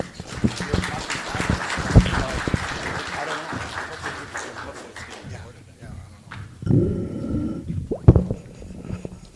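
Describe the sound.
A crowd applauds for several seconds, a dense, steady patter of many hands clapping that gradually thins out. Then a voice begins speaking with a few loud bursts.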